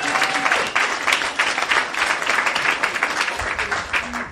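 A crowd at a cycling event bursts into sustained applause, dense overlapping claps filling the full 4 seconds at a steady, loud level with a faint tone briefly audible at the start.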